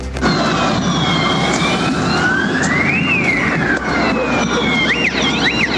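Several police sirens wail and overlap over a loud, dense street din during clashes on the Alameda at Estación Central, with pitches rising and falling; a faster yelping siren cuts in near the end. No one speaks.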